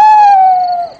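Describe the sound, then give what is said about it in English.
A single owl hoot at a campsite, one long sustained tonal call that slides slightly down in pitch and fades at the end. It is fairly loud, with no voices. “That's an owl.”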